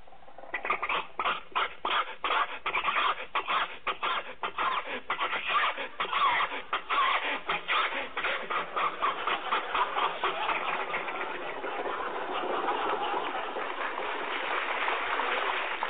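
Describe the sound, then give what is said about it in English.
An old car engine straining up a hill as it is given more gas, sputtering in a fast, uneven chug, loud, gradually smoothing into a steadier rough rumble toward the end, with no talking. “Do you think your car will make this hill, Jack?”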